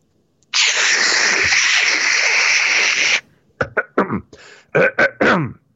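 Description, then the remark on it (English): A voice imitates radio static, like an AM radio tuned between two stations, with a loud, steady hiss lasting about three seconds, then a string of short, choppy crackling bursts with brief gaps between them. “Then the next thing I hear is like static.”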